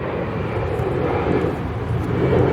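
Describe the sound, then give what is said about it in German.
A steady, loud roar of an airplane engine at Munich Airport, a broad rumbling drone with no pauses and a slight swell toward the end, with no voices. “Juli war am Münchner Flughafen und hat sich angeschaut, wie Flugzeuge früher aussahen”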